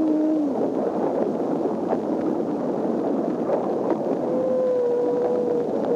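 A humpback whale sings in long, tonal moans with a rising then steady pitch, heard through a constant roar of underwater noise and hiss like an old, crackly recording.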